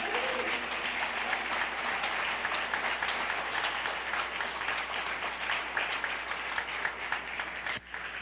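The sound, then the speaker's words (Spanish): Sustained applause from an audience, given to the Lord, a dense steady patter of many hands clapping for several seconds with no break, easing slightly near the end. “Dale ese aplauso a mi Señor.”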